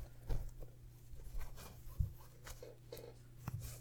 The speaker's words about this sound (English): Okay, so here's the corset. I've loosened it already, so let me just hold my arms up and you can zip it around my waist.